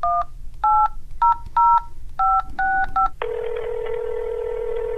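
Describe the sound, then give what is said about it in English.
A quick run of about eight touch-tone beeps dialing a phone call to a credit card company's customer service in a comedy sketch, in an uneven rhythm, clear, followed by a steady electronic ringing tone that continues to the end. No one speaks. “Here are our friends from Portland's sketch comedy troupe Livewire with their imagined take on a phone call that could happen starting Monday.”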